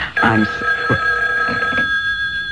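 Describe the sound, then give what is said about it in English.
A telephone bell rings in a house with a sustained, bright metallic trill, fairly loud, continuing steadily for a couple of seconds amid faint background noise and brief muffled movement. “The phone. At this hour?”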